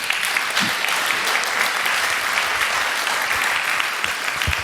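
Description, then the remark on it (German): Steady audience applause welcoming a speaker onto a stage, a dense wash of many hands clapping at an even, sustained loudness for several seconds, with no one speaking over it. “Und einen schönen Applaus für ihn.”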